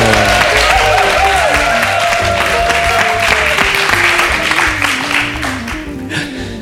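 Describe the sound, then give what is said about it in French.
An audience of about fifty people gathered around a large circle breaks into sustained applause on request, dense clapping filling the whole stretch at a steady loud level, with a low musical tone gliding beneath before the clapping tapers slightly at the end. “Et je demande, alors on est à peu près une cinquantaine là autour de ce grand cercle, d'ailleurs je vous demande de bien vouloir valider ce que je viens de dire en vous manifestant un petit peu, vous savez comme à la télévision, applaudissez, voilà.”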